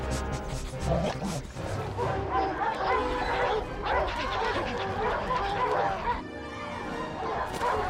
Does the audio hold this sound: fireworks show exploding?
no